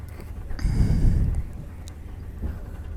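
train noise

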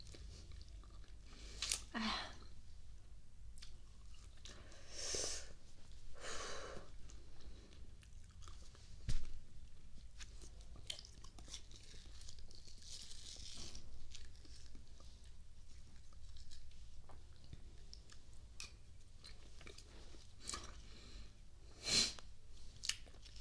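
chewing food

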